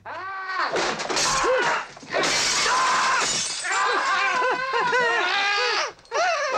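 Ornaments and furniture smash and shatter around a flat during a fight, a loud, continuous chaotic crash broken by brief pauses, while voices shout and grunt over the breaking.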